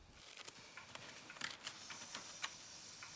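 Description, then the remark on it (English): Soft riffling and flicking of a deck of playing cards being shuffled in a kitchen, a quick irregular patter of papery clicks with a few sharper snaps, quiet and with no voices. “the women, all wearing dressing gowns, watch anxiously as Cora shuffles a deck of cards”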